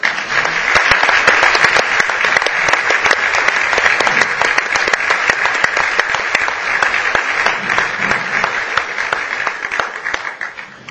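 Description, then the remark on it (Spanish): An audience applauds steadily for about eleven seconds, welcoming the executive director of the Rigoberta Menchú Foundation before the signing of an agreement with Totana town council, a dense, loud wash of many hands clapping at once with no voices, fading slightly at the very end. “Un fuerte aplauso.”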